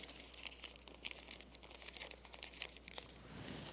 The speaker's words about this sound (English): So what we're going to try to do is we're going to take a piece of paper. This is just newspaper. And we're going to just kind of roll it up.